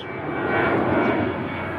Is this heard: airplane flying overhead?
yes